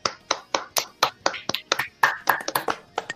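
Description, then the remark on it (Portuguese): Audience applause made of a dozen or so sharp, separate claps in a quick, slightly uneven rhythm, moderately loud, sounding more like a few hands than a full crowd. “E gostaria de parabenizar, e aí eu peço para a plateia, jogo para a plateia uma salva de palmas para a direção que marcou essa corrida para o horário do campeonato de futebol.”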